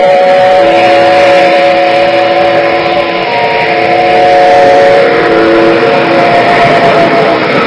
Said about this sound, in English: Bangkok now has a wonderful train known as the Sky Train.